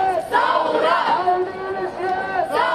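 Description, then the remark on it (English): A large crowd of protesters chants in unison, call-and-response shouts of "Thawra" (Arabic for revolution), many voices shouting together in a sustained, rising and falling call that fills the whole clip, loud and steady with a swell near the end. “How does it feel when you stand up, you start a chant, and everybody responds and chants back?”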